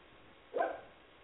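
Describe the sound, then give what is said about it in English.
A single short dog bark, a sharp yap that rises out of quiet and fades quickly, sounding slightly muffled. “Knock on my table, my damn dog barks.”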